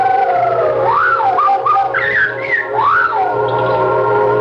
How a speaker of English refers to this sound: I can almost swear I saw a white finger pushing at the feathers on its head. Something was stroking the top of the parrot's head. Then it started making that unearthly sound.